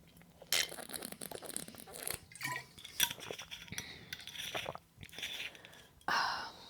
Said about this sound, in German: Fangen wir mit dem dritten an, vorher muss ich einen Schluck trinken. Prost.